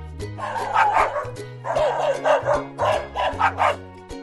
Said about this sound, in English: He is cute, but a dog that barks too much will disturb our neighbors.